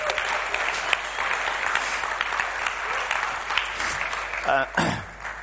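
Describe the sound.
An audience applauds steadily with dense, sustained clapping, and a voice briefly cuts through near the end as the applause continues.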